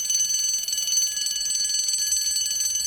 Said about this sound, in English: Suddenly a bell sounded and the children stood up.